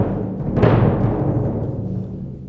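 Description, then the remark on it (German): An orchestral bass drum imitates a thunderstorm: a continuous deep, booming roll that swells sharply about a quarter of the way in, then slowly fades. No voices are heard. “Das war die große Trommel.”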